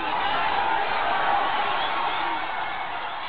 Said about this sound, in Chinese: 获得本年度达仁萨拉足球杯冠军的尼泊尔波拉队员在比赛场地一一情不自禁地互相拥抱、呐喊，将可乐和矿泉水洒向天空，享受着获胜的快感。